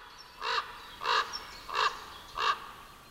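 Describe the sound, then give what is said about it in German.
Ravens caw four times in a steady, evenly spaced rhythm, each call harsh, raspy and clear over a faint outdoor background with no talking. “Raben treiben sich aber nicht nur auf Wiesen und Feldern herum.”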